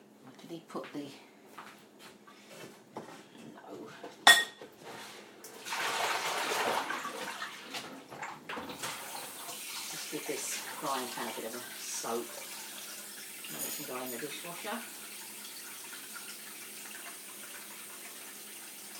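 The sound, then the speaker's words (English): A tap runs steadily while waiting for the water to get hot, a continuous hiss of flowing water that begins after a few clattering knocks and keeps going, with a voice speaking over it now and then. “It is taking a long time for the water to get hot and it's coming out.”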